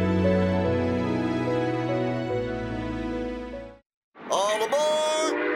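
A loud train horn blares a long, steady multi-tone chord, cuts off briefly, then sounds again over a rushing, rumbling wash of noise as the train passes.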